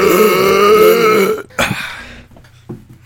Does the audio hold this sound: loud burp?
yes